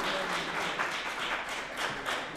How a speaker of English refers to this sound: Thank you, Greg Stewart. How about another round of applause for Greg and volunteer services today?